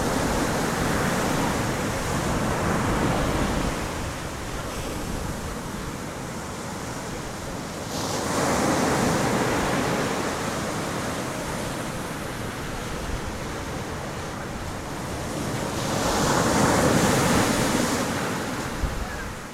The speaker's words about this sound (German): Ich vermisse das Meer. Es ist Sommer, weiterhin, und ich spüre noch das Salz und die Sonne auf der Haut. Das Rauschen des Meeres und des Windes im Ohr.